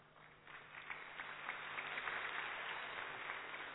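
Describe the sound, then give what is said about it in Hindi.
Applause from an audience, before a woman comes up to share her experience, swells in after a brief quiet start, a dense, steady patter of many hands clapping that holds for several seconds at moderate volume, with no voices. “देखो आपके आने से पहले ही तालियां बज गई, अब पता नहीं सुनाने के बाद कितनी बजेंगी।”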